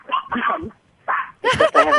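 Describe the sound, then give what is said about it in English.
High-pitched yapping from a small chihuahua, a few sharp barks and whiny yelps in quick bursts, loud, with short pauses between them. “That's a little dog. What kind of dog is it? Oh, they're chihuahuas.”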